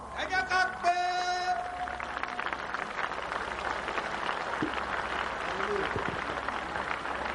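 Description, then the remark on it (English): A crowd claps hands steadily as a clap offering to God while a speaker is welcomed to the microphone, in a dense, sustained wash of applause. A brief tonal voice or cheer rises at the start before fading into the ongoing clapping. “to the microphone with a clap offering to God.”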